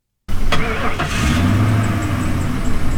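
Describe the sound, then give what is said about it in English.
Car engines rumble and idle as cars line the side parking lot of a Primitive Baptist church in Lounsboro during a food bank distribution, a steady low drone with a couple of sharp starts or revs early on, and faint voices mixed in the background. “Cars line the side parking lot of Shiloh Primitive Baptist Church in Lounsboro.”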